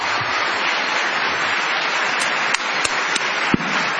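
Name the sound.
audience ovation applause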